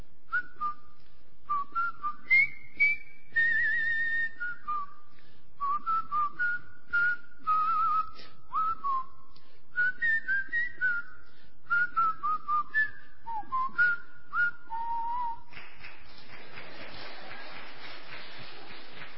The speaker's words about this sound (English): And the theme song that I can still whistle and do now sometimes is Colonel Bogey's March. Whistle it with me.